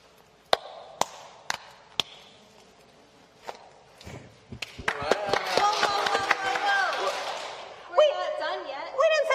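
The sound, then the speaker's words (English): A secret handshake of sharp, crisp hand claps and slaps, spaced evenly at first, then coming faster as excited voices swell over them and carry on after the clapping ends. “You mean our secret handshake?”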